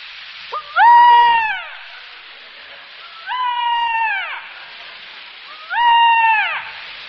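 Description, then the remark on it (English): A voice imitates a peacock's call: three loud, wailing, meow-like cries, each about a second long, rising then sliding down in pitch, spaced evenly over a steady hiss. “I didn't know that a beautiful bird like the peacock made such a such a noise.”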